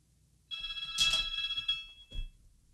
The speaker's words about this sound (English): What was that? Sorry about that. That's my home phone.